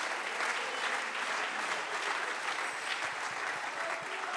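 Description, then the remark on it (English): An audience claps their hands in praise, many hands blending into a dense, continuous wash of applause that holds at an even loudness for several seconds. “Clap your hands and praise him right now.”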